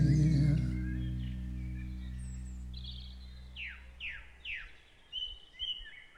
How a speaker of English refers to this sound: Another song that ends in birdsong.